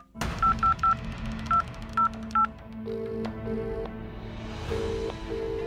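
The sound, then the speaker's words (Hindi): A quick series of about six or seven electronic keypad beeps as a phone number is dialed to call Baba Pahalwan, followed by a longer, steady ringing tone over a low background hum. “बाबा पहलवान को फोन किया जाए।”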